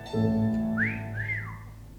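A person whistles two rising, sliding notes, the second swooping up then falling away, over a steady low hum of background sound; no talking.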